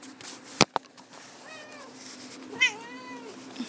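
cat meowing

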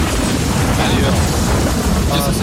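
thunderstorm sound effect

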